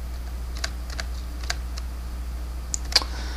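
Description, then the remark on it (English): Several sharp, isolated computer keyboard presses of arrow keys click at uneven intervals over a steady low hum, moderately loud, with one slightly louder tap near the end; no one speaks. “It's not saying anything when I'm hitting arrow keys.”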